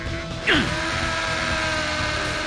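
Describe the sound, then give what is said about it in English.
A powerful drill starts up with a sharp sweeping whine, then settles into a steady, grinding mechanical drone that bores on continuously, loud, with no voices, as Batman drills down in Metropolis toward a plutonium core hidden 250 feet below. “I'll drill down to find it.”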